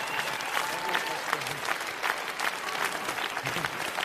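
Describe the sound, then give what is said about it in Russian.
Steady audience applause, a dense, continuous patter of many hands clapping at an even loudness throughout, with no voices standing out above it. “Я думаю, аплодисменты обязательно должны продолжаться.”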